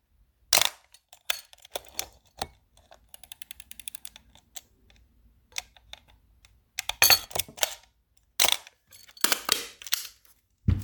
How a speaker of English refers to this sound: It's not quiet. It's not loud. You don't get the, you know, you don't get a squeaky shutter like a Canon. There's even the shutter curtain in the back. It's not metal. It's, I believe it's leather. So I'll let you hear the camera from the backside.